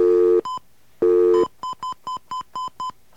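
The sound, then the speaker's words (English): A telephone keypad being dialed to place a call to Philadelphia: two brief bursts of dial tone, then a quick, evenly spaced run of about eight short touch-tone beeps, loud, with no voices. “let's make our next phone call.”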